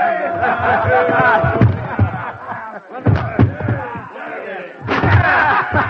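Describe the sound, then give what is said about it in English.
Soldiers demanding entry in the name of Caesar batter down a door with a rapid series of heavy, loud thuds and cracking crashes, over a clamor of shouting voices, ending in a final burst of splintering impacts. “Down with the door, then!”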